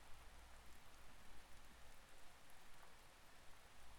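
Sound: rain falling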